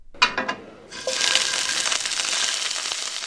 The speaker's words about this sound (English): King prawns frying in the kitchen of Sehnsucht, or Longing, Berlin's new restaurant designed for people with eating disorders. The giant shrimp will be arranged on a bed of ripe avocado, not the typical image of what an anorexic person might eat.